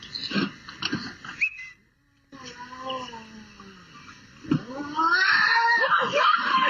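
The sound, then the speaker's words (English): A bobcat attacking a woman in a driveway, recorded by a Ring doorbell camera, screeches and yowls in wavering, harmonic cries. A brief silence breaks it, then lower moaning tones rise into a loud, harsh, sustained scream that fills the end. “When the cat begins its attack in that driveway ring doorbell thing where the guy peels the bobcat off his wife, it makes that sound.”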